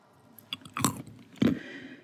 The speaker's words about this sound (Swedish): Knaprar du på någonting?